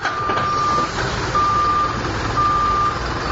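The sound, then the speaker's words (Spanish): A truck's reverse alarm beeps three times in a steady, evenly spaced rhythm, each tone long and high-pitched, over a constant rumble of engine and outdoor noise, in the Bajío region of central Mexico, where trucks carry auto parts to suppliers of large automakers. “En la región del Bajío, en el centro del país, camiones llenos de autopartes hacen el tour de los productores que suministran a los grandes fabricantes automotrices que ahí se instalaron: GM, Ford, Chrysler, Volkswagen, Honda, Toyota”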